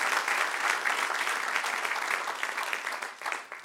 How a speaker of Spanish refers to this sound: Denle un aplauso al que reina y vive.